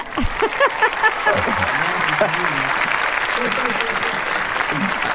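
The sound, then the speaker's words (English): A burst of hand clapping, dense and steady like a crowd applauding, lasts about five seconds at an even, fairly loud level, with murmured voices mixed into the clatter. “I have to give you the clap.”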